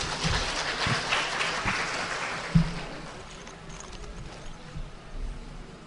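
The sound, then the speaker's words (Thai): An audience applauds steadily for several seconds, welcoming a physician who is to lecture on public health policy for Roi Et province on liver cancer. A dense crackle of many hands clapping tapers slightly toward the end, with a few louder individual claps standing out. “วันนี้ท่านให้เกียรติมาบรรยายเรื่องนโยบายสาธารณะเพื่อสุขภาพจังหวัดร้อยเอ็ดในประเด็นมะเร็งตับขอกราบเรียนเชิญท่านและขอปรบมือต้อนรับท่านด้วยค่ะ”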